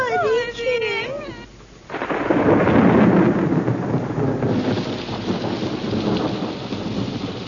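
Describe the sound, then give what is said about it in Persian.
After a brief vocal sound, a loud crack and rolling rumble of thunder bursts in over heavy rain in Paris, then fades into a steady downpour hiss. “و اما در پاریس خانم ادلا که خواب بود از صدای رعد و برق از خواب پرید.”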